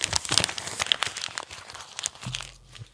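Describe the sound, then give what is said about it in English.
Dense crinkling and rustling of newspaper sale flyers being handled, with sharp crackly bursts throughout and a brief low hum near the end. No one speaks. “That was the bucket of sales that you see in the paper that you got yesterday.”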